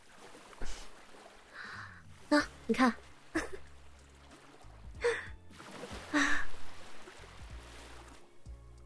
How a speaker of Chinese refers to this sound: 多美啊！你闭上眼睛，听到了吗？海浪的声音啊！